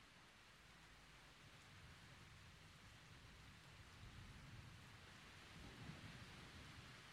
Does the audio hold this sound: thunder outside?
yes